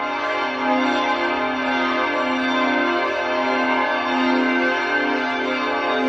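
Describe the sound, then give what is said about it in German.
A full peal of the large choir bells of St. Florian Abbey rings continuously, their overlapping tones blending into a dense, sustained wash of sound with no voices present. “Was ihr hier hört, das sind die Chorglocken des Stifts.”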